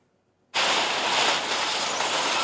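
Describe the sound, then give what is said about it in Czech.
After a brief silence, loud demolition noise from excavators tearing down the low annexes of a derelict building bursts in: a dense, steady roar of grinding and rumbling that holds without letup to the end, with no voices. “Teď bagry likvidují nízké přístavby, pak přijde na řadu výšková budova.”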